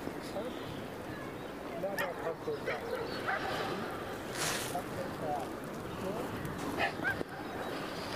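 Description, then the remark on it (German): A dog barks in short bursts and whimpers, set against a dense, constant wash of background noise and murmuring voices; the animal sounds partly buried. “Sprich doch nicht mit dem Hund.”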